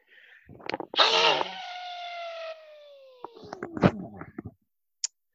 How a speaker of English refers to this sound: I'm about to sneeze. I think.